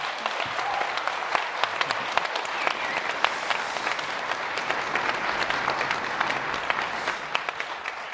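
Steady applause from an audience for Linn Stalsberg, many hands clapping densely and continuously at an even level for several seconds without a break.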